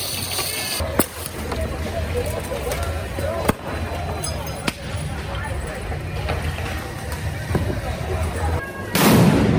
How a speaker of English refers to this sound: It's not just arsonists the federal agents have to worry about. It's people shooting mortar fireworks, throwing Molotov cocktails, and explosive devices.